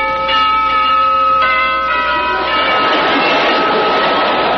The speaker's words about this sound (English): The doorbell rings.